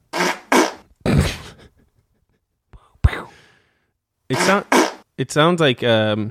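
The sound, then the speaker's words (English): A handful of short, breathy, fart-like bursts, likely made by a voice imitating the sound, with a sharp thump partway through and voiced vocal noises near the end. “It sounds like you're assertively putting something down on the table.”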